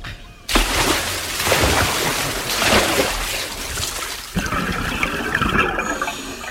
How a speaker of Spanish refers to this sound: Los tres marineros, pertrechados con sus botellas de oxígeno, se disponen a saltar al agua.